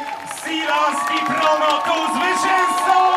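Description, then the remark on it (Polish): A lively crowd of spectators at the PKO Białystok Half Marathon in Białystok cheers and shouts continuously on a May Sunday, many overlapping voices whooping and calling out at a steady, energetic level with a sustained tonal whistle or horn-like note running underneath. “Co roku PKO Białystok Półmaraton gromadził kilka tysięcy biegaczy i kibiców.”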